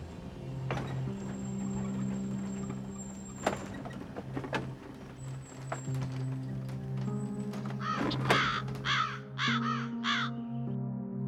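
A lone crow caws several times in quick succession near the end, harsh, from overhead on a dry tree branch, over a steady low background hum with a few scattered knocks earlier on.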